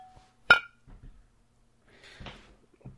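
A single bright glass clink rings out sharply and decays quickly as people toast, followed by softer handling knocks and a rustle-like burst of clattering a moment later.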